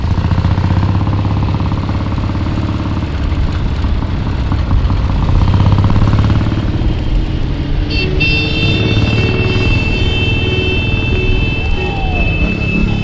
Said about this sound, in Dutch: Dat zware geluid, dat is dus van een Triumph. Een Engelse motorfiets, dat kan niet missen.